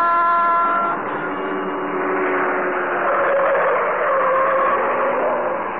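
A car horn blares with a sustained tone at the start, then a loud engine roars continuously as the Green Hornet's car, the Black Beauty, speeds through city streets in the darkness, with shifting whine and rush throughout.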